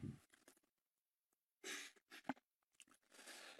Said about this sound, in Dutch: Even een slok water.